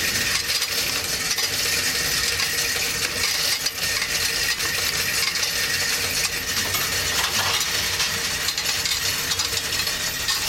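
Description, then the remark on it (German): A steady, dense torrent of coins clattering and jingling as they pour into a machine's coin slot, loud, continuing without pause for about ten seconds. “Bitte legen Sie Ihre Münzen in das Münzeingabefach.”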